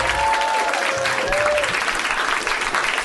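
An audience claps steadily, a dense, loud wash of applause that fills the whole stretch without pause, with a brief whistle-like tone near the start.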